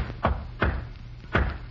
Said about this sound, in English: When you bring my meals, knock 3 times, then once. What is that, sir? Knock 3 times, then once, like this.